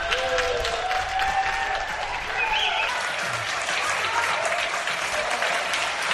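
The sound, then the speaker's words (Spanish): Sustained applause from many people clapping at once from windows and balconies across Spain, the daily 8 pm applause for doctors and health workers; a dense steady patter with a few faint whistles and cheers mixed in, continuing at an even level throughout. “Aplausos como estos, cada día a las 8 de la tarde desde ventanas y desde balcones de toda España.”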